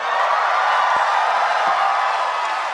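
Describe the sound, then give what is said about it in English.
A dense, steady wash of applause and cheering from a crowd, holding at an even, loud level throughout with no voices standing out. “emerging from the depths to a triumphant round of applause.”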